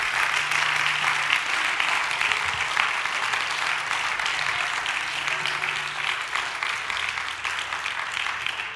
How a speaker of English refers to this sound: Praise the Lord. Would you give the Lord a great big hand clap of praise in this place?